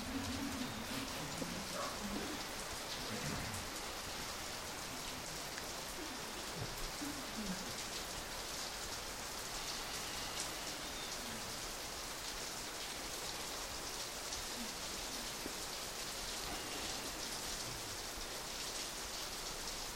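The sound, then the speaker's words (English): Steady rain falls throughout, a dense, even hiss of drops pattering on surfaces, constant with no pauses or voices. “No, the rain came. Então agora a chuva veio.”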